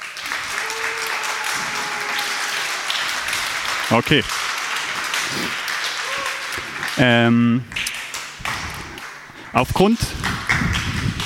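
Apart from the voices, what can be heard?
audience applause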